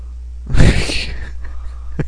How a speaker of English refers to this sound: He burped while he was sleeping.